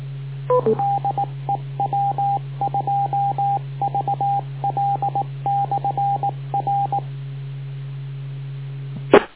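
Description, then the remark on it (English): Morse code beeps over a radio channel: a single steady tone keyed in quick bursts of dots and dashes, with a constant low hum underneath and a sharp click at the end. “Except for the guys I know who go to sleep listening to Morse code because it helps them sleep better.”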